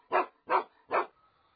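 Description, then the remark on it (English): A dog named Max, waiting at home, barks three times in a steady rhythm, each bark loud and sharply separated by brief pauses, followed by quiet. “When we got home, Max was waiting for us.”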